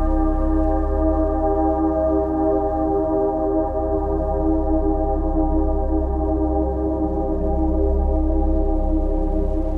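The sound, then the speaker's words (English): A quiet meditation bell, sounded every 30 seconds during a guided breathing meditation with wave sounds, rings on steadily and evenly for the whole stretch, a rich, sustained hum of overtones with no new strikes and no voices. “A quiet bell every 30 seconds will help remind you to come back to the waves.”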